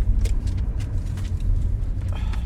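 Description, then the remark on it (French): A steady, heavy low rumble of a truck driving, heard from inside the cab, with faint rattles and brief higher noises over the constant engine and road drone. “Alors, théoriquement, dans le camion, j'ai pas le droit de fumer.”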